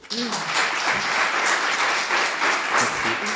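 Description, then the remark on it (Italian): Steady audience applause for the writer Nicola Couchepin after a reading from his novel Les Menches (Éditions du Seuil, 2013), a dense, even wash of many hands clapping that holds at a constant loudness throughout, with faint voices murmuring underneath. “La voce, l'applauso per lo scrittore Nicola Couchepin, ultimo brano in particolare durante una lettura del suo romanzo Les Menches, edition du Seuil 2013.”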